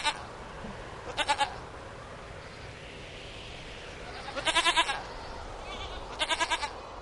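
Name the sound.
goat bleating loudly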